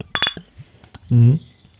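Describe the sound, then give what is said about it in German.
Glasses of a cola-and-orange soft drink clink together in a toast, a quick, bright cluster of two or three ringing taps, followed moments later by a short voiced exclamation. “So, jetzt geht's los. Prost!”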